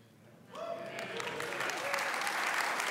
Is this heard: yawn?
no